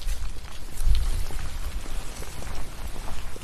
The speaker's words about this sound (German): Das Schöne, was ich jetzt hier gerade so finde, sind, dass man hier tatsächlich die Blätter auf dem Boden hört, wenn die sich vom Wind bewegen lassen. Und hier hinten ist auch gar nicht mehr so viel Verkehr.